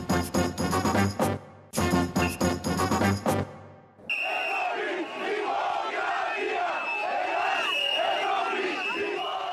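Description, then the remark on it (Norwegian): A short burst of music gives way to the steady roar of angry Greeks demonstrating in the streets of Athens, a dense wash of shouting and clamoring voices that stays loud to the end. “Lyden av sinte grekere som demonstrerer i Athen sine gater denne veka.”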